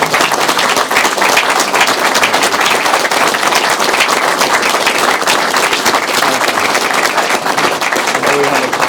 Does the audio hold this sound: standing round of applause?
yes